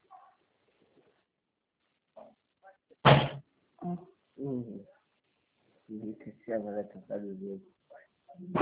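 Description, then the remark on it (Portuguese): A single sharp, loud thump of a door being shut cuts in abruptly, with voices talking intermittently before and after it. “Fecha a porta.”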